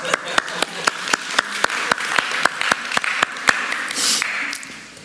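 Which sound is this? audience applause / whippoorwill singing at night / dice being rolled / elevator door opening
audience applause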